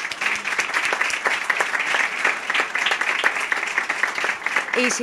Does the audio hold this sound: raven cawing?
no